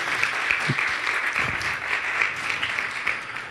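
A crowd applauds steadily, a dense wash of many hands clapping at once, holding an even, fairly loud level for a few seconds with a couple of faint low bumps underneath.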